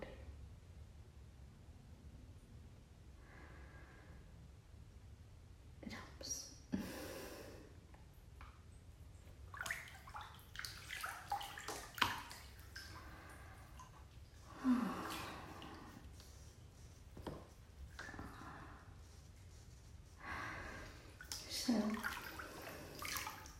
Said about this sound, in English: And then I have ice water. And I have ice water because when this becomes too hot, I like to drizzle the ice water over.